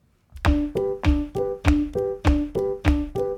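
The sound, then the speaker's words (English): Feet stomp on the ground in a steady, even rhythm, about ten heavy thumps in quick succession. Each has a low boom and a faint ringing tone, with no voices. “Okay, so stomp your feet like this.”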